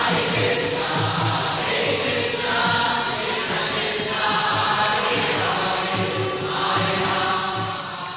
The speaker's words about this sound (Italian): stava passeggiando nel parco quando il suono del kirtan colpì il suo orecchio.